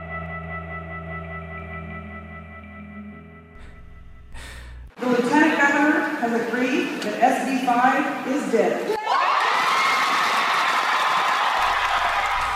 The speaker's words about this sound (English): Resounding cheers filled the three-story rotunda of Texas's state capitol in Austin after Planned Parenthood's Cecile Richards announced at 3 a.m. that the anti-abortion bill SB 5 was dead.